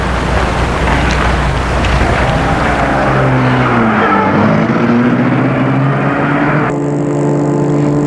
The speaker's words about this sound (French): La voiture est assez large. C'est le grand luxe. Siège en cuir plein blanc. Tableau de bord recouvert d'écailles. C'est Gilles qui se met au volant. Frédéric et s'est mis à côté de lui. Gilles met la voiture en route.